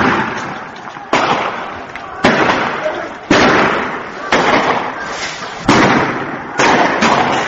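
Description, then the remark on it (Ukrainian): Sharp gunshots crack out every second or so, seven in all, each echoing briefly over a constant dense roar of a large protesting crowd with indistinct shouting voices, during anti-government demonstrations in Syria on a Ramadan Friday. “По всій Сирії чути цього дня стрілянину і гул невдоволення та опору масовим арештам.”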